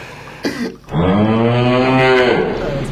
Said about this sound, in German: Hinter mir steht übrigens eine Kuh. Als Studiogast.